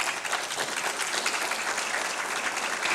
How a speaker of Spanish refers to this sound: Lo que les puedo decir es que los mejores resultados del informe del presidente se acaban de dar el 6 de junio, y por eso es un aplauso para mis compañeros que integramos esta legislatura.